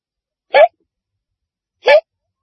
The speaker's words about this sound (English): We were watching the talk show host rehearse. He was so smooth that he made it look easy. Then he got the hiccups.